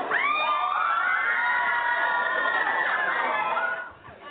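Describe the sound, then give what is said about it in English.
A crowd of children scream together in reaction to President Trump, loud, sustained high-pitched shrieks lasting several seconds, with overlapping voices rising and wavering before the noise trails off at the end. “Nothing says my presidency is going well like the screams of children.”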